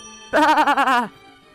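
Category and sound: animal, sheep bleating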